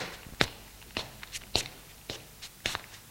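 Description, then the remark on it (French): Footsteps of people walking steadily into the corridor of an apartment, about six evenly spaced steps with crisp heel clicks, fairly quiet, with no voices. “Ils entrent dans un couloir.”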